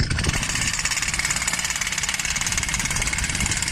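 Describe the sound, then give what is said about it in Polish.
A large jackhammer pounds a new hole into potholed asphalt on Składowa Street at the entrance to a new shopping mall: a loud, continuous rapid-fire hammering with a gritty mechanical rumble underneath, steady for the whole stretch with no voices. “Przyszedł tam z wielkim młotem udarowym i w dziurawym asfalcie zrobił demonstracyjnie kolejną dziurę.”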